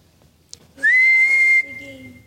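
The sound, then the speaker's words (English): A single loud, sharp referee's whistle blast lasting just under a second, shrill and steady, followed by a faint lingering ring as it fades out. “Blows the whistle.”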